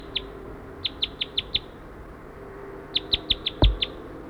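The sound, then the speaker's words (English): A wild bird, flying down toward the net area, calls in two quick runs of high, sharp chirps, five or six notes each, separated by a short pause, with a dull thump near the end and no voices. “Wild bird looks like it's going down to the net area.”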